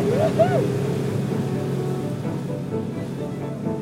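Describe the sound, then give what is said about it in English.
A chalupa motorboat's engine drones steadily as it departs on a river, its low rumble mixed with rushing water, with a couple of brief rising whines near the start. “sat, in that order, from left to right, in the back of the chalupa. Our fellow travelers arrived, and then we departed.”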